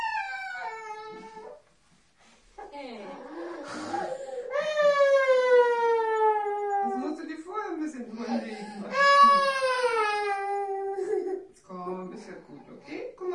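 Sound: young child crying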